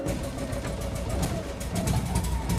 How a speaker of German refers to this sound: Wie der Kaminkehrermeister von nebenan fährt auch die Mutter eine BMW Isetta. So, jetzt werden wir sie mal starten.